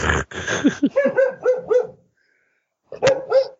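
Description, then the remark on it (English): A dog barks in a rapid burst of short, yappy barks, pauses briefly in silence, then lets out a couple more sharp barks, fairly loud with no one talking. “We have a dog. I guess he wants to say something.”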